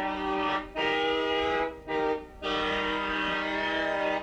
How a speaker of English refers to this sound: You see, now this one now is the Canada train whistle.